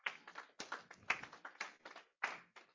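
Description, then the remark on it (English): An audience claps their hands for God in uneven, overlapping bursts of sharp, bright smacks, with brief lulls between waves. No one speaks. “Give God the hand clap.”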